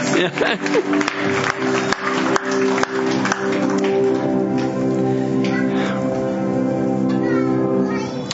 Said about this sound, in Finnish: Ja hei, annetaan vielä aplodin enkeleille, ei kun näille ylistäjille.